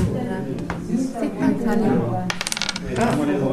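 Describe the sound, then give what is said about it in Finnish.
Dice clatter across a tabletop in a quick burst of sharp clicks and rattles during a dice game in a Finnish language course, with people talking in the background throughout. “Monikon partitiiviä harjoitellaan noppapelillä.”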